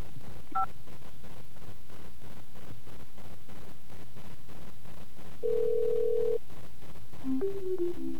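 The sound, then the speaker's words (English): A single short telephone keypad tone for the number five, pressed in an automated hotel reservation phone menu to get a hotel phone number, sounds near the start, followed later by a longer steady electronic tone and a quick run of faint beeps, with no talking. “Now we're going to press 5.”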